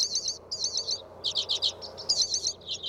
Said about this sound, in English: Within low bushes, a tiny pale finch with pink breast and red crown sings buzzy, jingling trills, a hoary redpoll.